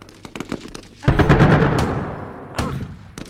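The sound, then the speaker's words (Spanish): Scattered sharp gunshots crack in quick succession among trees, then a heavy bomb blast booms and rumbles out, followed by another loud explosion and a few more shots. “Y aquí estás, embalsamada, casi real, entre los árboles, estas bombas, entre los tiros.”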